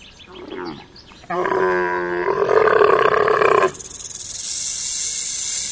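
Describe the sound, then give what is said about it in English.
A camel lets out one loud, drawn-out groan with a rough, rumbling tone, then trails into a breathy hiss. No one speaks. “It's a camel!”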